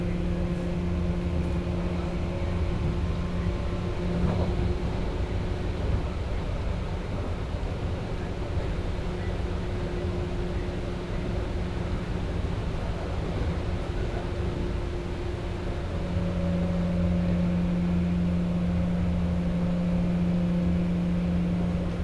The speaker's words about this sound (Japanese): なお、この電車は尼崎で車両点検のため車庫に入ります。尼崎から先、公園方面特急車ご利用の方は尼崎でお乗り換えください。